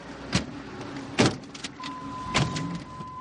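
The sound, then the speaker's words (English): An Oldsmobile convertible's engine runs with a steady low rumble, broken by a few sharp mechanical clunks and clicks, and a thin high whine joins in halfway through. No one speaks. “Beautiful day for a convertible.”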